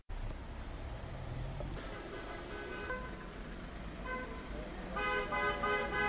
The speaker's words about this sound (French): Alors, comme vous pouvez l'entendre, il y a des voitures solidaires qui klaxonnent. Il y a une cinquantaine de gilets jaunes qui sont présents et qui font un filtrage de voitures.